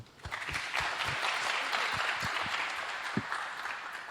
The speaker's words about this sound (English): No? Okay, then another big applause.